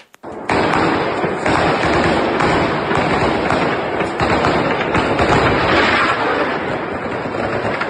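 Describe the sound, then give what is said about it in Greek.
Dense, rapid anti-aircraft gunfire firing at drones in Ukraine, along with Ukrainian soldiers firing Kalashnikovs, rattles continuously for several seconds, a loud, sustained barrage of overlapping bursts with no voices, filling the whole clip. “Στην αρχή αυτή η πυκνή ήχη που ακούγονται είναι τα αντιεροπορικά, καθώς και οι Ουκρανοί στρατιώτες, οι οποίοι με Καλάσνικοφ έβλεπαν τα”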